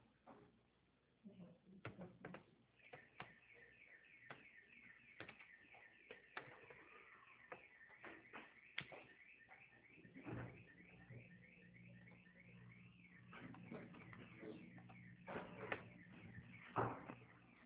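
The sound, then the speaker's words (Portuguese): A refrigerator door opens with a click, followed by rustling and knocking as rice is taken out, a series of clatters with faint voices murmuring in the background. “É, pega o arroz da geladeira.”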